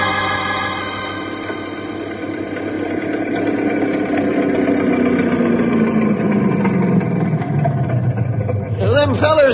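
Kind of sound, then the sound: vehicle, speedboat engine roaring past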